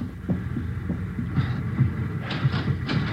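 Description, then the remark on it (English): Several dull knocks on a compartment door by a porter handing in an envelope, irregularly spaced, over a steady low rumbling hum. No one speaks. “He's knocking at the door to that compartment, handing in the envelope.”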